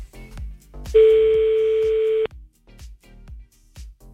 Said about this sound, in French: Vous taquez sur le téléphone, oui.